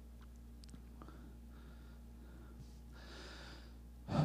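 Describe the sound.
A voice imitates snoring: two faint, breathy rasping inhales followed by a sudden, louder low snort at the very end, with no talking.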